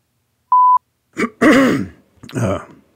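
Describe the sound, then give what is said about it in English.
A brief electronic beep, then a man with congestion clears his throat in three rough, gravelly bursts, the middle one longest and loudest. “I may be clearing my throat a bit here today.”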